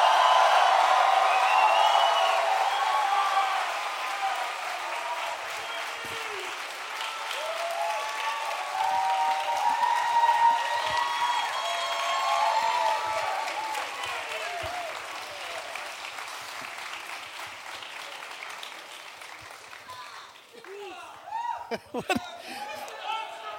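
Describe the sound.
Loud, sustained audience applause at a show as guests are welcomed, with scattered shouts and whoops rising above it, the clapping gradually thinning out toward the end as individual yells and a few voices come through.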